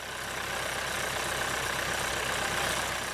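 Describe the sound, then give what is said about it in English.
A tractor engine carrying families runs steadily at idle on a Christmas tree farm in Canada on a crisp, cold, windy early morning, its low chugging rumble pulsing evenly under a broad hiss, constant throughout with no voices. “Families bundled in scarves, hats, and gloves huddled together on the wooden tractor pole.”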